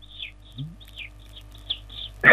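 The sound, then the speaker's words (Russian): A beatboxer imitates chirping chicks with their mouth, making a handful of short, high peeping chirps spaced irregularly, ending in a brief louder burst. “Показывать звуки цыплят. Как будто птички залетели.”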